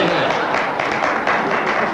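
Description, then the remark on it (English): Six audience members clapping, a scattered, uneven patter of hand claps at steady volume, with a faint murmur of voices underneath. “Six of them clap, so six of them can go home.”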